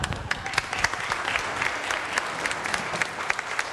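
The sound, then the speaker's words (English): A church audience at Westwood applauds a guest speaker, a dense crackle of many hands clapping at an even level for several seconds with no voices rising above it. “No, you never want to applaud first.”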